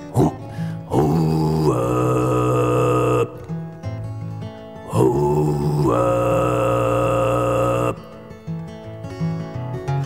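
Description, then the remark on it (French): The foghorn of Toad Island (l'île au crapaud) sounds two long, loud, low droning blasts, each lasting a few seconds with a rich, steady buzzing tone, separated by a brief gap of softer rumbling. “Bientôt, nous entendons la corne à brume de l'île au crapaud.”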